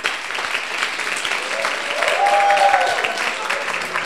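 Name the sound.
applause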